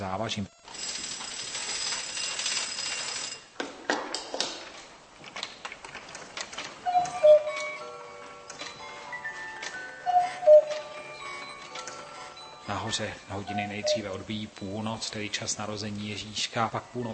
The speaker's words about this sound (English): There are altogether 142 figures performing 350 different movements. All the movements are managed by one single mechanism, which is operated by one weight.